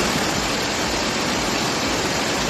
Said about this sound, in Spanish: Con esta fuerza bajaba el río en Candeleda.